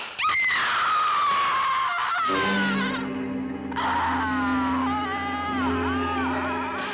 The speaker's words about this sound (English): She starts screaming and obviously wakes up Dracula.